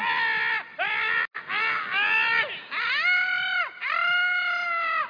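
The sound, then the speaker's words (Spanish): A voice screams over and over in loud, sustained, high-pitched bursts, each one swooping in pitch, with only brief gaps between them. No other sounds compete. “¿Y vos por qué gritás?”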